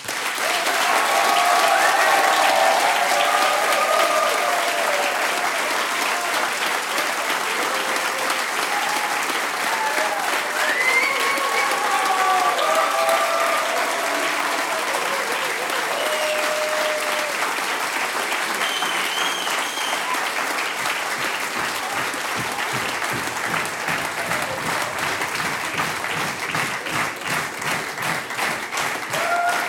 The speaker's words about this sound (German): Wir klatschen jetzt alle Vollgas für diesen Kinderchor. Ihr wart großartig und der Applaus ist für euch.